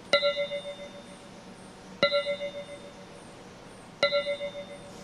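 Three evenly spaced bell-like chimes from the sonified NMR signal of a newly synthesized research compound in the magnet, each a sharp metallic strike with a cluster of clear ringing overtones that shimmer and decay over about two seconds, like a small glockenspiel. No voices.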